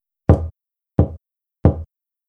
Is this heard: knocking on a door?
yes